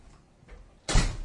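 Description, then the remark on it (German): A door is pushed shut with a single solid thud, preceded by a faint shuffle and a light rattle of the handle. “Ja, ich muss mal eben die Tür zu machen.”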